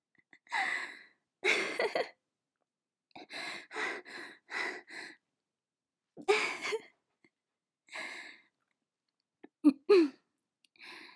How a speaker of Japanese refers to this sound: しゃっくりが。